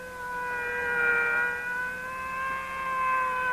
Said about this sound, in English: It's a police car. They found him!